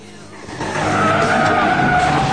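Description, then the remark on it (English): Car tires skid with a sustained squeal that swells louder after a brief rumble, harsh as a red sports car slides off the steeply tipped back of a truck into the road and instantly reverses away from a speeding lorry. “Regardless of the lorry speeding up behind, Hawkins slides the car off the truck into the road and instantly reverses to keep his distance from the lorry.”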